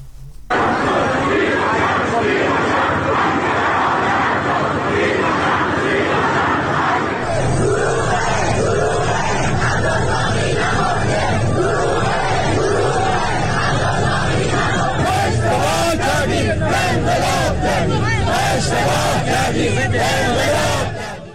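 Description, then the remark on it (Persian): A large crowd of hundreds of citizens protesting in the street in Abadan, Iran, on Wednesday evening, shouts and chants slogans together in a loud, continuous roar of voices, with rhythmic bursts of collective yelling and sharp claps or cries growing more forceful toward the end. “شامگاه چهارشنبه آبادان شاهد حضور صدها شهروند در خیابان بود که به نحوه مدیریت این بحران اعتراض داشتند و در شعارهای خود مقامهای ارشد جمهوری اسلامی را هدف گرفته بودند.”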